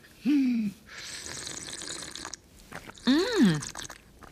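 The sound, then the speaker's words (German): Hot water pours into a cup already holding sugar and rum in a steady splashing hiss lasting about a second and a half, framed by two short voiced exclamations before and after. “Und heißes Wasser.”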